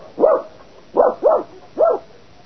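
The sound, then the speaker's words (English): A dog named Toby barks four times, a single bark, then a quick pair, then one more, with short quiet gaps between and no voices. “Leave the dog here and come up.”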